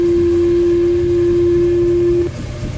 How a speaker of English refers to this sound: Built into the synthesizer are a number of oscillators. These oscillators produce sound electronically. Each oscillator produces a different kind of sound with a different wave form. This is a sine wave. Another oscillator produces a triangular wave.